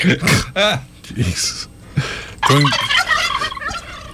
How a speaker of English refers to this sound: Those are chickens. Those are turkeys.